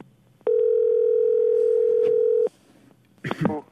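A single steady telephone ring tone hums for about two seconds, clear and fairly loud, as if heard through a handset, while calling a number found in the phone book, followed by a short pause and a brief voice at the end.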